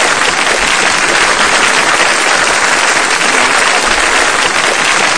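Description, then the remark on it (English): A dense, steady burst of applause from many people clapping at once in tribute to an album, loud and continuous for several seconds with no voices standing out. “Claps you're giving there.”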